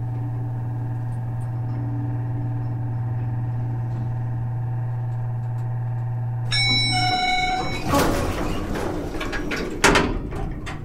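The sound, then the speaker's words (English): A steady mechanical hum gives way to a rising clatter as elevator doors one floor above slide open with a rumbling, scraping rush, ending in a solid clunk. “Yeah, now the door's opened above us.”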